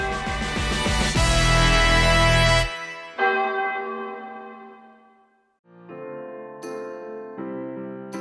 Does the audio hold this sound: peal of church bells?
yes